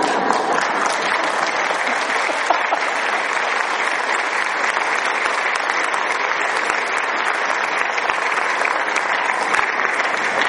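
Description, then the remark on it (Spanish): Sustained applause from a large audience for an evangelization leader who is present, dense and steady clapping filling the whole stretch at an even, fairly loud level with no talking over it. “Entonces yo conozco unos cuantos líderes de la evangelización, entre los cuales aprecio a mi querido amigo aquí presente, pero ya no le den más aplausos, por favor.”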